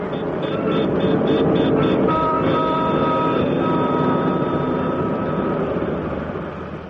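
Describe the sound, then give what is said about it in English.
Car horns honk over a dense, roaring street din: a quick run of short repeated toots gives way to long, overlapping sustained blasts, loud throughout. “There were the auto horns. Suddenly they seemed twice as loud and terrifying.”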